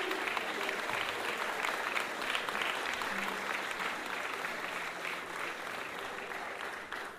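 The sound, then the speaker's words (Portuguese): A crowd applauds steadily for several seconds, a dense, even patter of many hands clapping at once that stays strong throughout and fades only slightly toward the end. “Mas eu quero uma salva de palmas para o meu amigo”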